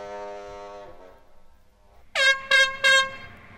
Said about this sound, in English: I still remember feeling really proud when the boats gave me a couple of extra toots on their whistle when they got through, just to say, thank you.